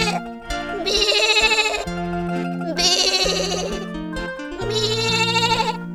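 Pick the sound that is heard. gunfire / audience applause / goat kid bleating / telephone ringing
goat kid bleating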